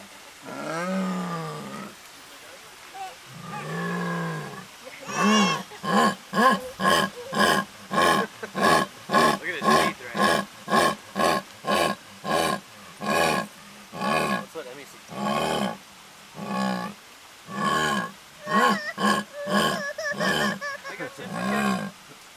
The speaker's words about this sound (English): Now, some of the sounds were a little bit scarier. Is this the jaguar? Yeah. Wow.